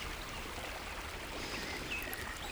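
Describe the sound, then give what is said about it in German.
A steady, broad rush of a waterfall heard from afar along a descending forest path on a sunny early afternoon after a night thunderstorm, carrying on without a break, soft and distant, with a few faint high chirps flickering above it. “Von weitem hörst du schon das Rauschen eines Wasserfalls.”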